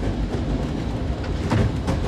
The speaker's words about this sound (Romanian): Vezi că trenul ăsta merge în Italia până la Bahita.